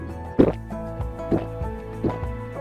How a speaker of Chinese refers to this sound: 奶奶拿起了饮料，喝了一大口。